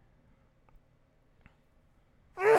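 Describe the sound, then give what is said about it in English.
A single sudden, loud sneeze bursts out at the very end, after a stretch of near silence with a couple of faint clicks. “Bless you.”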